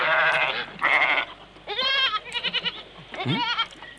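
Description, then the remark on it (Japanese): Several high, quavering bleats from a newborn kid goat in a goat shed, one after another with short pauses, fairly loud, with faint barn-like background noise and no talking. “ヤギ小屋、生まれたばかりの小ヤギの鳴き声。”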